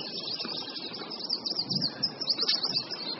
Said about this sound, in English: It's not like there's a bird song here and a bird song there. It's just this kind of wash of sound.